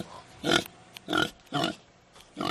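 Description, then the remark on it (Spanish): Piglets grunt and oink in four short, bright bursts spaced about half a second apart, fairly loud, with quiet background noise between calls. “Estos son cerditos”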